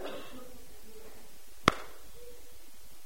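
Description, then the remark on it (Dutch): A single sharp hand clap cracks out once, short and crisp, over a faint steady background hiss with no talking: a teacher clapping his hands in a classroom. “De meester klapt in zijn handen.”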